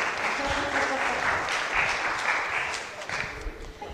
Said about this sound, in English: You can give them a clap now. Thank you very much.